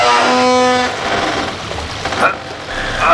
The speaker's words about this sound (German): Was ist da an der Tür? Plätschert irgendwas.